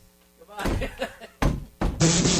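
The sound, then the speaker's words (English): A door opens with a series of heavy clunks and a rush of noise, the sounds coming in loud bursts while a voice murmurs in the background. “All right, I'm at the door. Okay. Open it.”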